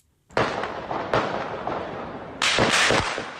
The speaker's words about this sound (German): Schüsse hallen durch die Dunkelheit. Ein Mann duckt sich in Panik in den Eingang einer U-Bahn-Station.